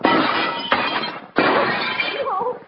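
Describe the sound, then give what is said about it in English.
Door glass is smashed in with two loud crashing bursts a little over a second apart, each trailing off into a rough, shattering rattle of breaking glass. “Smash it in.”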